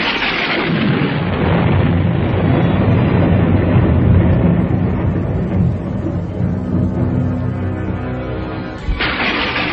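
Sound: thunder clap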